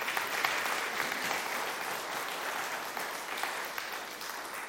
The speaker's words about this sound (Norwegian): Takk skal du ha. Han må ha en klapp.